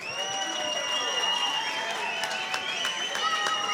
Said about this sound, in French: Vous pouvez bien fort applaudir nos deux candidats de ce soir.